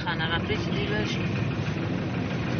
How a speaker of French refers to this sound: La voiture prend la direction de l'est de Kaboul.